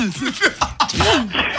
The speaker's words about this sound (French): Ah, elle a éternué. Santé alors. Les allergies, tout ça.